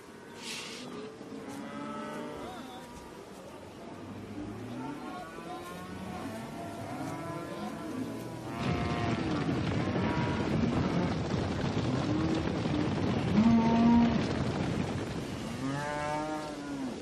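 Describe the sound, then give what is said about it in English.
A herd of grass-fed cattle moos repeatedly, several overlapping low calls drawn out one after another. Wind rumble and background noise grow louder partway through, with the mooing continuing on top. “Everything is grass-based. You know, they don't eat corn or dead cows or chicken manure like, you know, they feed right here in the valley, or dead chickens.”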